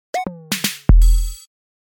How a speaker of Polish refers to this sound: Jeśli słyszycie te hałasy, takie szumy i trzaski i stuknięcia, to testujemy z żoną nowy odkurzacz. Kupiliśmy odkurzacz, bo stary się popsuł.